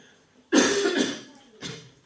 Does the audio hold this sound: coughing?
yes